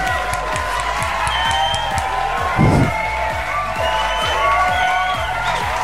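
A crowd at a football stadium cheers and applauds steadily, with a dense wash of clapping, shouts and whoops that stays loud throughout, swelling briefly in the middle.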